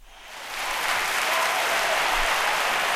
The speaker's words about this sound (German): Da sagen wir natürlich... Applaus, Applaus. Applaus, Applaus.